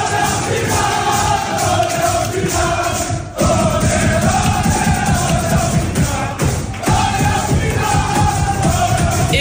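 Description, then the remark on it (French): Paris Saint-Germain (PSG) football players shout and cheer together in their locker room after qualifying for the Champions League final, a loud, dense wall of yelling voices that barely lets up, with only two brief dips in the din. “Écoutez, c'était hier soir dans les vestiaires du PSG.”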